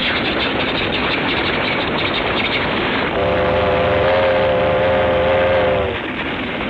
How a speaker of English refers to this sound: A train, a train.